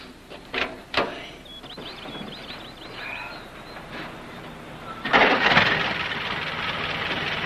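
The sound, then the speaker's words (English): An original car engine starting up: a couple of sharp clicks, a quiet pause, then the engine catches with a loud roar and settles into a steady, rumbling idle. No one speaks. “Hey, this is the original engine. Original paint job, too. Hey, start it up a minute.”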